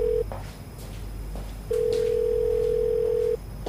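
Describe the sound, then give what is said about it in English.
A telephone line rings out with a steady, mid-pitched electronic tone while someone dials 999, the emergency number, and waits for an operator to answer: a short burst, a pause, then one long sustained tone over a low background hum. No one speaks. “I dialed 999 and waited several minutes before an operator answered”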